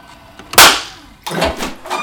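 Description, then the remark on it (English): Dice clatter onto a hard surface: one sharp, loud crack, then a second burst of quicker rattling clicks as they tumble and settle, with no voices. “Well, get ready, for you're about to hear dice being rolled once again.”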